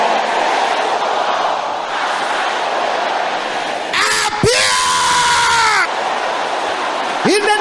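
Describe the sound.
A large audience shouts a prayer loudly all at once, calling on the angels of God assigned to help their destiny, a dense, continuous roar of many voices, with one strong voice rising above the crowd in a long yell midway through.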